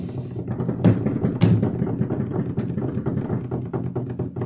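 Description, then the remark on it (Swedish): A drum roll announcing the winner of a competition: a steady, rapid rumble of dense hits lasting over four seconds, with two sharper accents near the start and fairly even loudness throughout, no voices. “Trumvirvel.”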